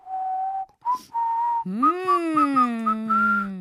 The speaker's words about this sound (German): Ich bin nicht der beste Pfeifer, aber ich kann zumindest so ein bisschen pfeifen.